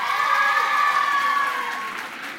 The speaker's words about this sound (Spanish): Bueno, pues entonces yo voy a decir el nombre de los colegios que habéis venido hoy aquí y vosotras vais a aplaudir como si no hubiera un mañana, ¿vale? Venga.